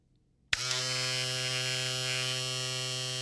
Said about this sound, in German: Das Geräusch kennen wir alle. Neben dem Zähneputzen, dem Duschen und dem Nägelschneiden gehört auch die Rasur bei vielen zur täglichen Körperpflege.